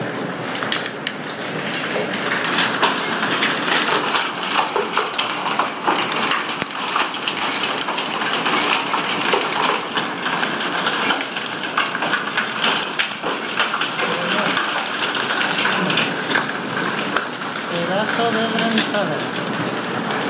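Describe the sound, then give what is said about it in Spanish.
Heavy hail on 3 July pounds the roof over a top-floor flat, heard from inside with the terrace door still closed, in a loud, dense, unbroken clatter that holds steady for the whole stretch, with a faint voice surfacing now and then beneath the roar. “Es una granizada con la copa un pino, y esto que no he abierto la puerta de la terraza, que voy a abrir ahora.”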